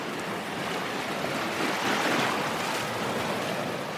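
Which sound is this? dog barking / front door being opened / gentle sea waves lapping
gentle sea waves lapping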